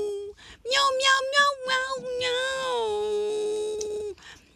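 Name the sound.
person imitating cat meows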